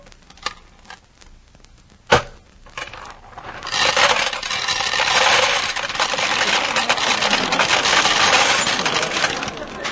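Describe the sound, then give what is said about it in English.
Two sharp metallic clinks of two pennies dropping into a peanut vending machine, followed by a long, steady rattling clatter of the machine's mechanism that runs to the end. “Two pennies, two peanuts. This machine must be... Excuse me, bud. Can I get at that peanut machine?”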